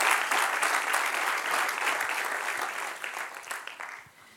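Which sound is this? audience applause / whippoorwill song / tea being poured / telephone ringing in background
audience applause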